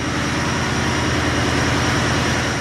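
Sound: power plant engines running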